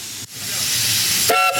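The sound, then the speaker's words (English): A loud steam hiss rushes steadily, then a steam locomotive whistle is pulled near the end, bursting in with a bright, chord-like shriek over the continuing hiss. “Several hours and several hundred unnecessary whistle pulls later, we arrive in the town of Machadodorp.”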